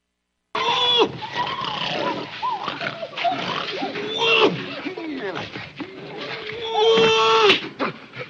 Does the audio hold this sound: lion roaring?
yes